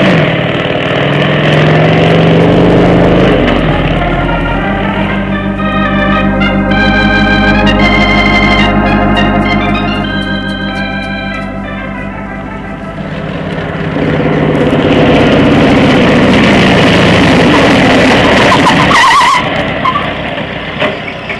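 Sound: motorcycle engine running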